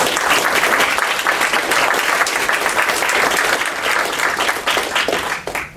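Sustained applause from a large audience at a talk, dense overlapping claps holding steady for several seconds before beginning to thin out at the end.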